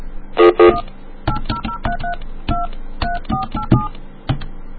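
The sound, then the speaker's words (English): A touch-tone phone number being dialed: two louder beeps open, then about ten short dual-tone keypresses in a quick, uneven rhythm, clear with no voices. “Oh, let's call this one. This is a good number.”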